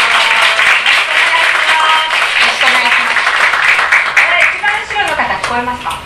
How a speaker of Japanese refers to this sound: 拍手でお迎えいただきたいと思います。